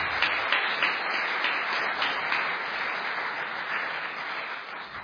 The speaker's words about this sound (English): Thank you, gentlemen. Let's give him a round of applause for that round.